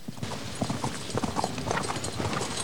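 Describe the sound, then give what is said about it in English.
A horse's hooves clip-clop in a steady, rhythmic gait, churning up mud as its rider rides down a hill under gathering storm clouds, moderately loud, with a constant hiss of background noise underneath and no voices. “The horse's hooves churn up the mud as he rides down to meet her.”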